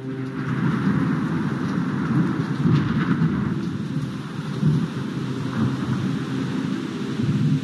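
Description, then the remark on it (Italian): Heavy rain pours down steadily, a dense hiss with a deep rolling rumble of thunder underneath, loud and continuous throughout with no voices. “La notte del golpe sembrava il diluvio universale.”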